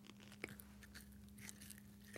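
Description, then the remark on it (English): Quiet chewing of an all-natural-style gummy snack, with small crunchy bites and soft squishy mouth sounds, including one sharper snap near the start, over a steady low hum, in a home studio in Western Massachusetts. “It's that kind of like all natural gummy snack, even though I'm sure it's not all natural.”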